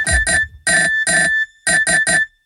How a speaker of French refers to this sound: Mais en fait, c'est la sonnerie du Nokia 3310. C'est un bel objet.